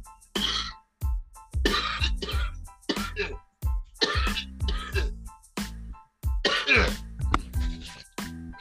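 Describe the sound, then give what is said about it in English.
A loud run of coughs and throat clearing from a person getting over a cold, about nine or ten harsh bursts in quick succession with short gaps, raspy and phlegmy, with no talking. “I've been sick for 2 weeks, and I wasn't able to do anything, but I'm just getting over this cold, so if you hear me coughing, it's not the weed, it's just me.”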